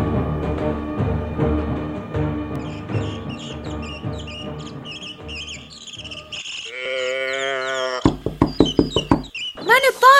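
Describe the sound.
A quick series of sharp knocks on a wooden door rings out near the end, following a stretch of rhythmic background sound and a brief voice.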